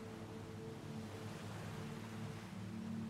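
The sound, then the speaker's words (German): A steady, soft rush of ocean surf on a sandy beach fills the background, a continuous washing noise with no distinct breakers, low in level, with no voices. “Du kannst das Rauschen des Meeres hören, deine Fußschritte im Sand.”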